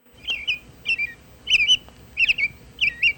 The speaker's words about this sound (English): They're one of the more common species all across North America from sea level to above tree line. And here's the song of a robin that probably everybody knows and loves.